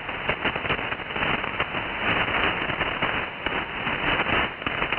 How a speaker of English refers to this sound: Wow, those lightning crashes are really crashes tonight. They must be pretty close here.